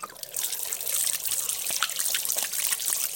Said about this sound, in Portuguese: Me dê licença que eu vou lavar aqui minhas mãos, tá certo? Oxe, aí tem um sabão que é bom que só. Foi eu que fiz.